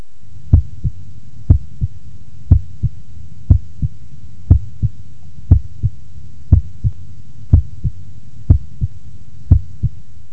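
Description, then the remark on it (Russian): Heart sounds through a stethoscope at the first auscultation point: a steady lub-dub, about ten beats at roughly one per second, each a close pair of thumps, the first sound heard fainter than the second, over a low constant hum with no talking. “Обратите внимание, что первый тон был слышен хуже второго.”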